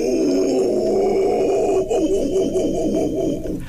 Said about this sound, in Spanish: ¡Órale! Ese es Albata Paliata. ¿Cómo? Albata Paliata es el mono zaraguato de manto.